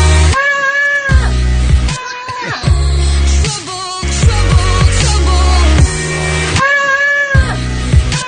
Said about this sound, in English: It was the next day that she wrote a song with a goat.